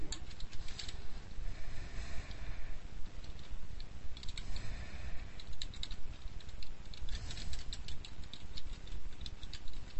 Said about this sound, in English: You're not listening. You don't have a ready mind. Because you're not listening. You're typing.